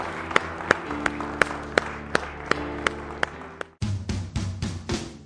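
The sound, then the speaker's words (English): A standing church audience claps hands in praise to the Lord in a steady, rhythmic beat over sustained music, then the clapping continues faster and denser after a brief break. “Well, stand to your feet with me. Let's give the Lord a hand clap of praise this morning.”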